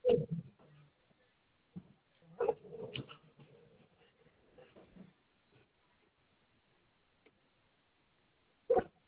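A Dalmatian dog barks a few times in short, sharp bursts, one at the start, a couple clustered near the middle and one at the end, with quiet stretches in between.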